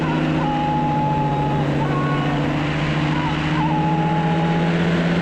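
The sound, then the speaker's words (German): The propeller engine of an ultralight aircraft with a paraglider wing drones steadily at a loud, constant pitch with a buzzing, raspy tone as it takes off leading a flock of 35 northern bald ibises, holding a steady roar throughout without pause. “bläht sich der Schirm auf und das Ultraleichtflugzeug geht in die Luft”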